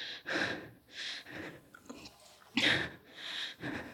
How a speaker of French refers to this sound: Ma respiration se fait halètement.